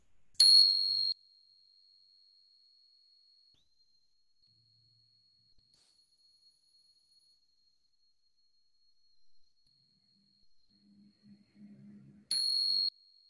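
A small meditation bell is struck once to open a morning meditation, and its bright, high tone rings out slowly over many seconds, with a faint low murmur near the end just before a second strike.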